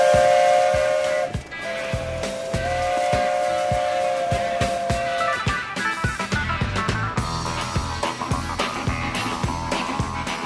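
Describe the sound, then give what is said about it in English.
A steam locomotive on a volunteer-run heritage railway in Wisconsin sounds two long, steady whistle blasts over the loud, rhythmic chuffing and hiss of steam, continuing with no voices. “And did I mention steam locomotives?”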